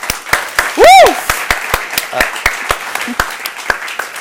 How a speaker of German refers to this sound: Ein Applaus bitte für Sie.